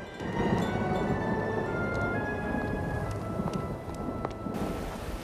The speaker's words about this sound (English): lightning strikes the statue of an angel holding aloft a wreath. She watches as its hand clatters to the ground.